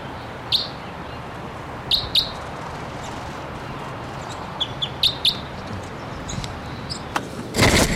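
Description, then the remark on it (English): Screaming calls of a male crossbill, one of two males present: sharp, harsh bursts repeated irregularly, some in quick pairs, ending with a louder, longer outburst, all over a steady outdoor background hiss. “One of the birds is here screaming.”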